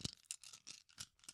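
Tiny hard plastic duck pieces from a board game, like miniature rubber duckies, rattle and clatter together in a hand, a quick series of bright, clicky bursts over about a second, fairly quiet, with no one talking.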